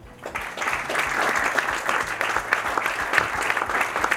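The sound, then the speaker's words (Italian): A steady applause sound effect from a crowd, a dense wash of clapping hands that starts quickly and holds at a moderate level throughout, with no voices over it. “Scusate, doveva partire un applauso sul non farsi ammaliare, evitare di farsi ammaliare dalle sirene del giudizio facile.”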